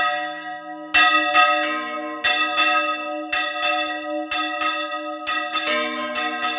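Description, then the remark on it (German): About half a dozen men and women ring church bells by hand in a bell tower in Albaida, Valencia region, smaller and larger bells over 1 metre across, in an uneven, overlapping sequence of strikes, each clang leaving a long shimmering hum. The peal is loud, with no voices. “Ein gutes halbes Dutzend Männer und Frauen stehen hier oben, läuten die Glocken.”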